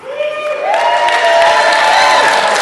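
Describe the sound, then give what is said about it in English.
A crowd applauds and cheers loudly for the Goat Posse at a contest, a dense, sustained wash of clapping with whoops and shouts that swells after the first moment and holds steady to the end. “We're very happy that we still get applause.”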